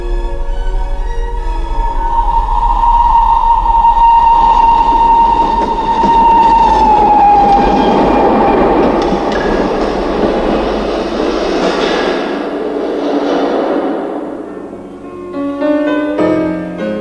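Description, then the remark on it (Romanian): A train bound for Vienna rumbles steadily along the rails with a loud, continuous roar, a long whistle-like tone sounding early and sliding downward before the noise gradually fades toward the end. “Am trecut în fugă pe la Sebeș, am luat trenul spre Viena.”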